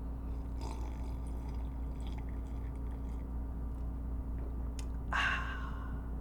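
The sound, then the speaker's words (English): A big slurping sip of a drink, a loud wet burst near the end, after a few faint mouth and liquid sounds, all over a steady low hum with no talking. “Kind of a weirdly big sip.”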